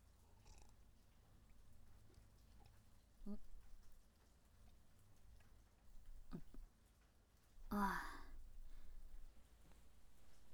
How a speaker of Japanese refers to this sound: 雨は急に降られちゃうとちょっとあれですけど、こうやってお家の中から眺めるのはいいですよね。綺麗で音も心地いいし。